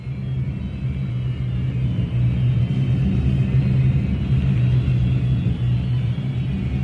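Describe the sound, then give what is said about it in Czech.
A boat's engines start up and rumble with a deep, steady drone that holds at a constant, fairly loud level throughout, with no voices. “Areová, převezmete řízení člunu. Oshira navigace. Hagub Pakardová, systémy ochrany života. Jsou všichni na svých místech? Areová. Ano, kapitáne. Spusťte motory.”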